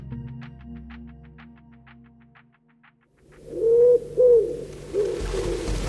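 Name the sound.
pigeons cooing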